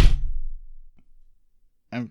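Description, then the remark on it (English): A fist slams down on a table with a single heavy thud that rings out and fades, followed by a faint tap and a brief burst of voice at the end. “I guess I should have slammed my fist down first and then said, let's do this, but whatever.”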